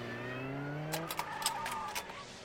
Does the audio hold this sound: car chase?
yes